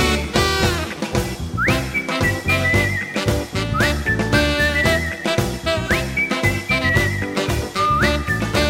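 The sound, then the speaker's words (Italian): A whistled melody with rising slides rides over a full, loud band playing a steady rhythmic backing, the tune repeating in short phrases every couple of seconds. “Per tutti oramai ha girato lo fischiaril, fischiate, fischiate.”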